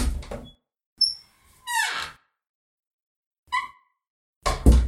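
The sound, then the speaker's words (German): A door creaks open in a few drawn-out, high squeaks, framed by dull low thumps at the start and end. Fairly loud, with no one talking. “Ja, dann schauen wir mal, wer heute an der Tür steht und zum Finale unseres Jubiläums-Podcasts begrüßen können.”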